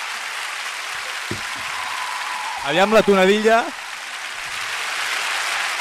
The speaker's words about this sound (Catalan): La gent aplaudeix, borratxa, eufòrica, desorbitada, alienada, desgraciada.